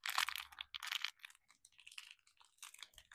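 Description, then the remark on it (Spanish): A textured toy figure being handled and rubbed, giving quiet, crinkly, scratchy rustles in irregular bursts, with no one speaking. “Escuchen la textura de este muñequito.”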